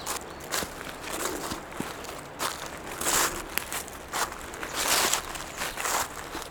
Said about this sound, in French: J'aime particulièrement ce son de papier froissé. Un peu mat, un peu crépitant.